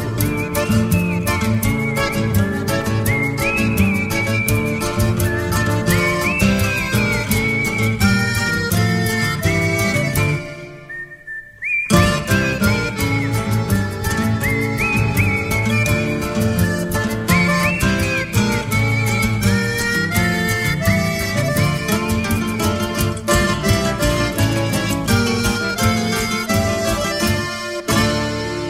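A milonga-style song plays with steady guitar-driven accompaniment and a high, wavering whistled melody riding on top, broken by a brief near-silent pause partway through before the music resumes at full level.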